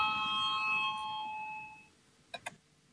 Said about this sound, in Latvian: Lūdzu zvanu, balsosim par 34.